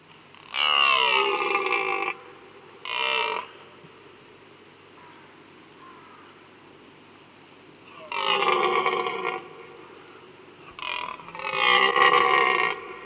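A red deer stag, the UK's largest deer, bellows loudly during the autumn breeding season, the rut, to proclaim its territory: a deep, rasping roar repeated in about five bursts, long and short, separated by quiet pauses, with no one talking.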